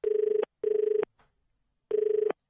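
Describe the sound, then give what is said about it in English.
A telephone rings in the classic double-ring pattern, two buzzy trilling bursts, a pause, then another pair starting, fairly loud with no one speaking. “Oh, what's gone wrong with the phone now?”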